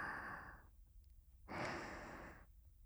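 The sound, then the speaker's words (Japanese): Two airy, breathy sighs from a girl heard up close, each a soft rush of breath under a second long, separated by a short quiet pause, with no talking. “女の子の吐息を間近で感じるって。”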